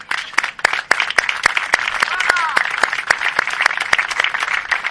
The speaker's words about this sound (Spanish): Y diré también, lógicamente, al esfuerzo de una concejal que siempre desde la sombra nos está ayudando a poder hacer realidad estos sueños, como es la concejal de Planificación y Desarrollo, María José Bedía, para la que pido un fuerte aplauso.